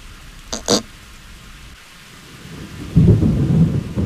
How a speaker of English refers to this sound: When the rain began, Pooh was asleep. It rained and it rained and it rained